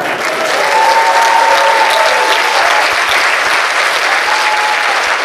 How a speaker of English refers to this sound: And I want everybody to know that the applause was spontaneous.